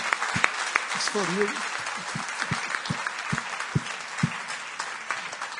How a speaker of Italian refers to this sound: Vogliamo fare un applauso alle nostre ospiti.